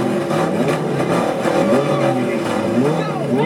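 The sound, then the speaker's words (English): A loud car engine revs with rising and falling pitch, sweeping past, steady for a few seconds, with no voices. “There's something really weird about listening to louder engine noises in your car. There's one out the other side.”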